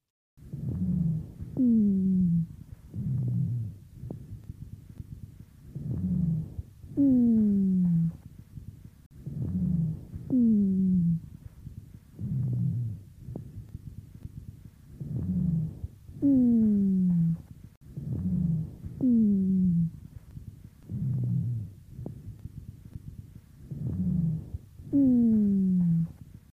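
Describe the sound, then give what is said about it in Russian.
Harsh lung breathing of a female patient with chronic bronchitis, heard through a stethoscope, with low, droning, snoring dry bass rhonchi that glide downward in pitch, repeating with each breath cycle in a steady rhythm over about twenty-five seconds. “Прослушайте запись сухих басовых хрипов, сделанную у другой больной хроническим бронхитом.”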